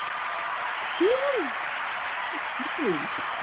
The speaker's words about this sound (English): I needed a hand clap. Yeah, you deserve that.